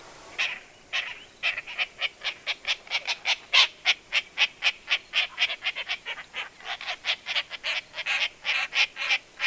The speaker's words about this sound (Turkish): Sanki ağaç kakanın bir başka şekli gibi. Kargan mı demişti? Ala karga demişti acaba.